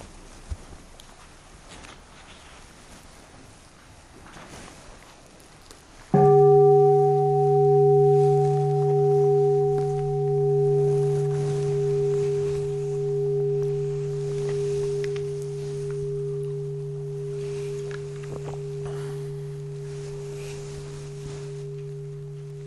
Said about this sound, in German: Dann hören wir nochmal eine Glocke.